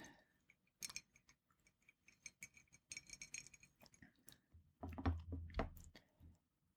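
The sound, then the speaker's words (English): Quiet mouth sounds of someone sipping Marksman Kentucky Bourbon, an 80 proof bourbon: small wet clicks and lip smacks, a faint glass tap, then a fuller gulp and swallow near the end, with no talking. “With that first sip, you still get that caramel flavor, but in it, it is balanced with a certain sweetness and smokiness, as well as the essence of some tropical fruits.”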